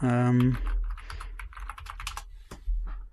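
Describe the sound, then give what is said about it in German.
Rapid, uneven clatter of keys being typed on a computer keyboard, fairly crisp, following a brief hummed vocal sound at the very start. “wird dich für deine Tastaturanschläge übrigens lieben.”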